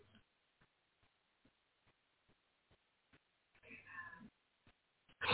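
A female cat called Ghost Kitty, the guard cat, sitting on a desk, gives a drawn-out meow partway through, fairly clear, with a louder burst of sound right at the end. Faint soft ticking thumps tap steadily in the quiet background.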